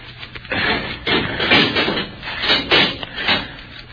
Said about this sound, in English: Here, hold him while I unlock the door,